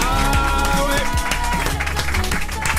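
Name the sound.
audience applauding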